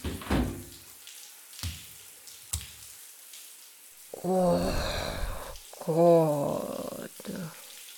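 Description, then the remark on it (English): Hot shower water runs in a steady, soft hiss throughout, broken early by a few sharp knocks, then a person's voice sighs and murmurs over the spray. “I really needed some hot water on my shoulders.”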